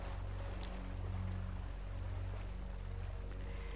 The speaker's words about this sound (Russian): И вы чувствуете, как шум волн